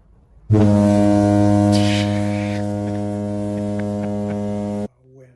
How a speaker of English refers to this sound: There's just a random like foghorn?